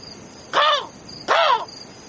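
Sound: crow cawing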